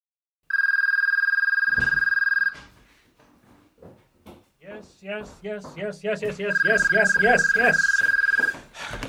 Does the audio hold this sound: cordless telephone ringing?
yes